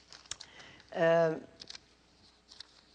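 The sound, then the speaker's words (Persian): Light, scattered clicks and soft rustles of someone rummaging through papers and objects while looking for a sheet of paper, with a brief hummed vocal sound in the middle. “جالبه اگه تو این چیز این ورقه، از این ورقه ها یه دونه به فکر کنم من دارم، اجازه بدید.”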